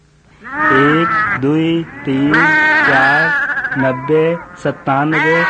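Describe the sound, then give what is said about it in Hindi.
Several sheep bleat loudly, one wavering cry after another with barely a pause, sometimes overlapping as if a small flock is calling together. “दूसरी भेड़े सुरक्षित और आराम से रहे। रखवाला उनके गिनती करे खातिन आवा।”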